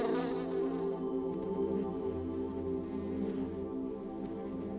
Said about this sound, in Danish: Når hun er færdig, flyver hun hjem til bifamilien.